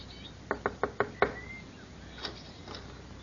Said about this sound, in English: The gate was open, and seeing no one about, he made his way up to the front door of the shack and knocked.